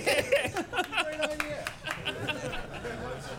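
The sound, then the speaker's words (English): Scattered, uneven clapping from a small audience answering a question put to them, mixed with murmured chatter and light laughter, moderately loud throughout. “Yeah, you're clapping because you gave him the idea.”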